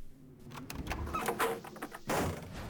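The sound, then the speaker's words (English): An office building door is shoved shut by two people against a low, blustery wind during a snowstorm, with scraping and rattling knocks before a final heavy thud and a rush of noise. “Sam, the night watchman, greeted me and helped me close the door.”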